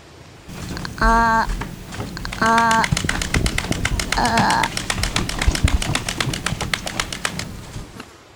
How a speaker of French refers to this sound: Un battement d'ailes fait frémir le feuillage. L'ornithologue frissonne. Une silhouette noire surgit aussitôt. C'est un corbeau.